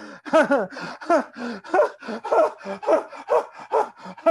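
Rhythmic, audible breathing in and out through a relaxed, open throat, about ten voiced breaths with a gasping, sighing quality, steady and fairly loud with no talking, done to keep the throat open while letting intense emotion flow.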